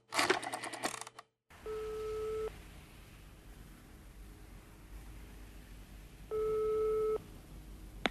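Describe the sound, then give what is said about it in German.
A short clatter, then a ringback tone on a telephone line: two steady, buzzy electronic tone bursts about four seconds apart over faint line hiss, with no voices. “Denn jetzt schon wieder das Telefon.”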